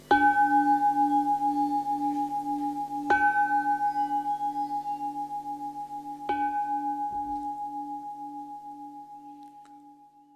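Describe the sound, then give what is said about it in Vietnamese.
A temple bell is struck three times at even intervals, each strike ringing out in a deep, shimmering tone with a slow wavering hum that lingers and fades between hits. “Bây giờ quý vị lắng nghe ba tiếng chuông và nguyện cầu những điều an lành đến với mình và người thân, mở ra một chương mới trong cuộc đời của bản thân mình.”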